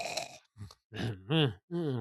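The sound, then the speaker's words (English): A voice imitates the soft snoring of a drunk man passed out on a bed: a handful of low, rumbling grunts and groaning exhales in an uneven rhythm, fairly quiet, with short gaps between them. “And he's snoring a little, not quite loud, not like super loud, but just...”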